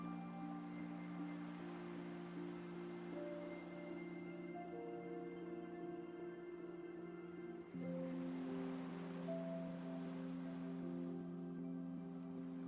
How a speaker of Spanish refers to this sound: Escuchando las olas del mar que van y vienen. Como tu respiración apacible. Sosegada.